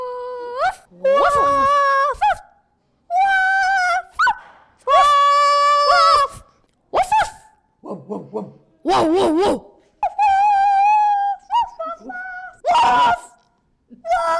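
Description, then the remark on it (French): A human voice imitates a dog, alternating drawn-out whimpering whines and yelps with a few short barks, in loud bursts separated by brief pauses. “Si quelqu'un essaye de me le voler, je lui croquerai les mollets. Voilà. Ouf. Ouf. Ouf. Ouf.”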